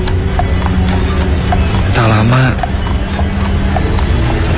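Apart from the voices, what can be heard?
horse hooves galloping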